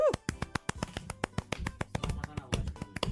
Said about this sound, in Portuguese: Palmas analógicas, foi ótimo.